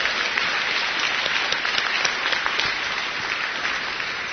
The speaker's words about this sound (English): I do feel in my heart that all the people that volunteered to run around last night, I feel they should have a great round of applause. They worked their buttons off last night.